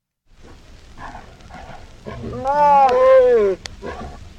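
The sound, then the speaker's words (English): Tigers mating: a tiger lets out a loud, drawn-out growling roar with strong harmonic tones, rising over about a second, amid rough grunting and rustling noises. “The title of this this file is tiger copulation.”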